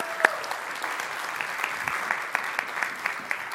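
audience clapping

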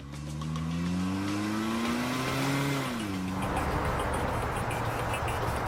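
getaway car accelerating away

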